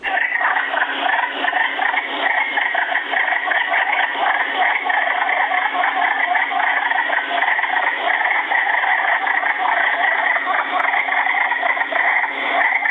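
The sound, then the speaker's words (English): A dense chorus of wood frogs in a spring breeding frenzy in woods surrounding a farm fills the whole recording, countless overlapping clucking croaks merging into a steady, loud, unbroken din with no voices present. “The wood frogs have thawed out from their winter state of frozen hibernation and are engaging in a breeding frenzy.”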